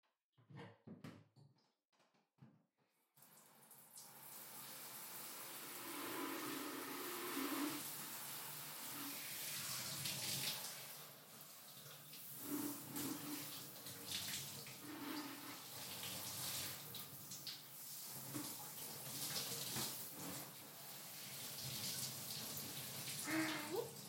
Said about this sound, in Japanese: じゃあまずはシャワーでお兄さんの体流していくよ。